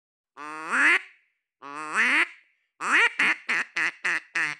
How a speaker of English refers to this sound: This isn't a live field recording from a wetland. John Chambers actually brought his trusty duck call instrument to our interview.